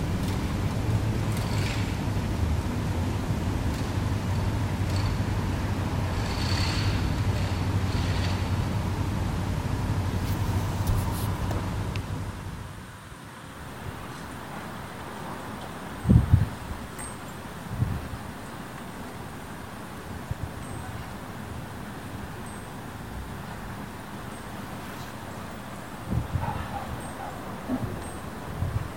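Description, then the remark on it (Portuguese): A disinfection truck's engine rumbles under the steady hiss of a high-pressure hose spraying disinfectant on the sidewalk of an empty street at night for about twelve seconds, then stops, leaving quiet street ambience with a few scattered knocks. “No silêncio da noite e com a rua vazia, um carro de desinfecção aproxima-se e começa a espalhar o produto no passeio com uma mangueira de alta pressão.”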